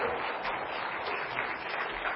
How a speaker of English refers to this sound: Can we give them a round of applause for how incredible that was?